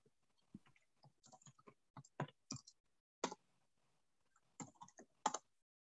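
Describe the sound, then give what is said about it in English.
Computer typing and clicking: rapid bursts of sharp keystrokes with short pauses between flurries, fairly quiet and crisp, with no one talking. “I didn't realize clicking remove would do that.”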